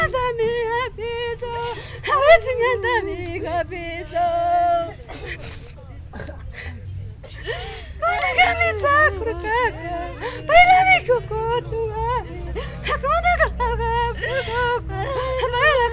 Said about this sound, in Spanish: En el cementerio general de Riobamba, el ambiente era de desconsuelo y llanto entre los parientes que llegaban mientras avanzaban las primeras horas de la mañana.